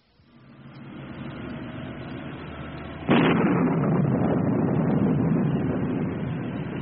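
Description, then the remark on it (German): Thunder rumbles in as a thunderstorm approaches, building for a few seconds before a sharp, loud crack about halfway through, then a heavy low rolling roar that carries on to the end, with no voices. “Es donnert! Ja, es hat gedonnert.”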